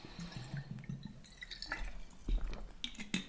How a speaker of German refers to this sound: Und ich nehme jetzt noch kurz einen Schluck Wasser.